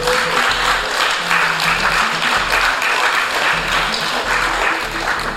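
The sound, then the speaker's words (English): A crowd at a party event applauds steadily for about five seconds to thank the DJs, a dense, even wash of many hands clapping at a constant loud level, with a faint low hum underneath. “You can give more applause.”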